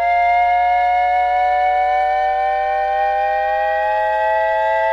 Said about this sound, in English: Now, what I think this sounds like is a little like the shepherd tone, but also with a commentary from the fire truck responding to the three-alarm fire where Pinocchio had burst into flames.